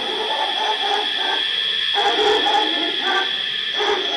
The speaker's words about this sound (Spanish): A lo lejos, un perro.